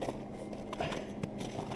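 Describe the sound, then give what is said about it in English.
Soft, crunching footsteps in snow, a few uneven steps over a steady low background hum, not loud, with no one speaking. “They're walking in snow, that's what you're hearing.”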